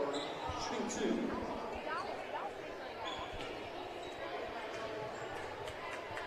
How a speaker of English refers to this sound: Two dribbles.